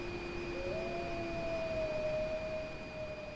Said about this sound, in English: Haunting and beautiful, a wolf's cry pierces the darkness of a Montana night. The wolf believes it's answering a call from a fellow Canis lupus, but it's been hoodwinked.